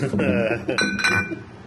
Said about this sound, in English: Oh, yeah, sound effect in there. Wow. I get my keys.